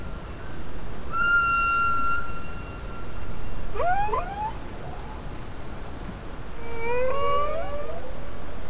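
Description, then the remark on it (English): Humpback whale song recorded by an offshore hydrophone in Monterey Bay: a long steady tone followed by swooping, rising and falling calls and moans, heard alone over a constant hiss of ocean noise. “They also have recordings of other whale species. Here's a humpback.”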